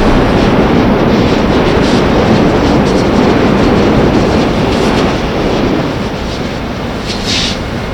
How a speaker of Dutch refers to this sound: Nou, er komt een trein voorbij met forensen.